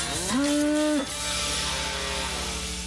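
A single cow lets out a loud, steady low moo lasting about a second, its tone holding level before dropping off, followed by a fading hum of background noise.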